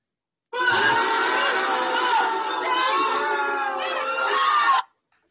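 A crowd booing sound effect: many voices boo loudly for about four seconds, blending into one steady, droning jeer that starts and cuts off abruptly, with no talking over it.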